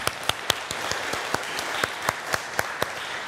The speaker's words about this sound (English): Do you want to clap? I feel like I want to clap.